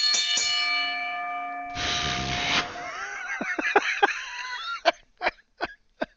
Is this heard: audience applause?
no